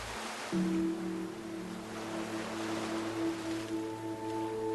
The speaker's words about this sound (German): Und es ist ja oft so, dass das Wasser auf den Sand trifft und dann immer weiter schwappt und irgendwann zieht sich das Wasser wieder zurück aufs Meer, bis die nächste Welle kommt.